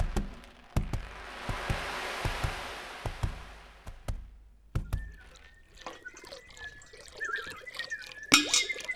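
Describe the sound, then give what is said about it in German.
A coin is thrown into the water of Wurmsprung, a wishing well: a rushing splash with sharp ticking impacts, then scattered echoing drips and plinks ringing out, ending in one bright clink. No one speaks. “Und er warf die Münze in Wurmsprung.”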